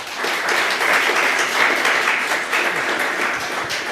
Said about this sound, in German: Einen wunderbaren Applaus für diese zwei wunderbaren Menschen.